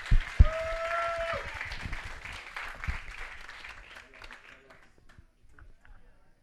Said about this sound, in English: It's okay. It's okay. Give him applause.